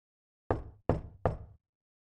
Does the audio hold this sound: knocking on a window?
yes